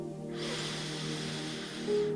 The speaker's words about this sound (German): Wir atmen ein durch die Nase